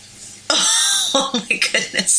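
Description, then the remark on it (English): A loud sneeze bursts in abruptly after a quiet moment, a harsh, hissing blast that lingers for about half a second before breaking into several short, choppy vocal bursts. “You are sneezing so loud!”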